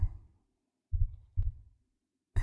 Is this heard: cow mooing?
no